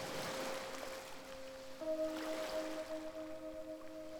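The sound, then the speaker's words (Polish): Soft sea waves wash onto a sandy shore and recede in slow, steady swells, breaking against the beach, with a low sustained tonal drone humming underneath. No voices are present. “Słyszysz szum fal.”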